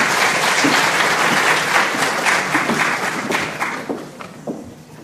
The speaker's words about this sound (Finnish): Ja suuret taputukset ensimmäiselle talk show -porukalle. Kiitos.